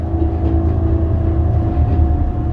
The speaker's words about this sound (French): sur une rame courte, ça donne à peu près ça. Carreau fermé, pas possible d'entendre, il faudrait vraiment hurler, plus le bruit du moteur derrière